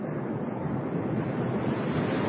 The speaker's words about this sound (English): I love the sound of those waves.